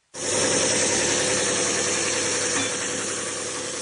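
A power sander whirs into action and runs steadily, a loud continuous buzzing drone with a bright, hissing edge as it works across wood. No voices are heard.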